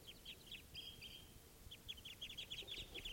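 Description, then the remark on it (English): A flock of five birds, apparently all males, call in quick, overlapping bursts of short, high chirps and clucks, fairly faint and close together, over a steady low rumble of background noise with no talking. “There's more than one bird there.”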